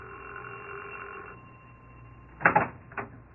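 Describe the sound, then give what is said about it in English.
A doorbell rings with a harsh, buzzing tone: one longer burst followed by a brief second buzz, loud against a quiet, humming background. No one speaks. “It was the middle of a Friday afternoon when the doorbell rang.”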